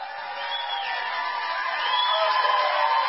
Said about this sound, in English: Some cheering, of course.